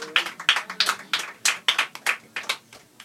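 Sparse applause from a small audience, with a dozen or so sharp, bright claps landing in a fairly steady rhythm at moderate volume, no voices.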